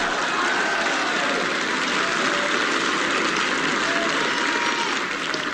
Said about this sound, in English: Signals applause on gramophone record. Ah! I've had my fill of the clapping. Puts record in knapsack for next week.